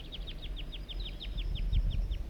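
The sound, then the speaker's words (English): A young wild bird calls in a fast, steady series of short, high chirps, about a dozen in quick succession, over a low rumbling background. “These are the vocalizations of the juvenile.”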